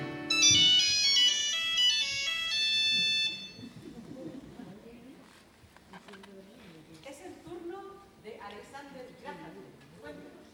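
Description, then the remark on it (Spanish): A loud, bright electronic telephone ring sounds for about three seconds, then stops as a person starts speaking. “Yo vengo a presentarles el teléfono, un aparato para comunicarse a largas distancias.”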